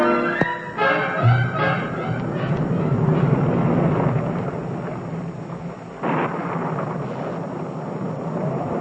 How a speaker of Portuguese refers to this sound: Mas, ilustre amigo, traz capa, traz galocha, guarda-chuva, não? Está temporal danada.